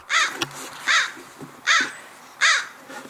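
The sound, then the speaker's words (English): A crow caws four times in a steady, evenly spaced rhythm, each call harsh and fairly loud, with faint background noise between the calls and no talking. “Meet me, the red bird, or the crow, sings. Meet me, the red bird sings. Here, here, here.”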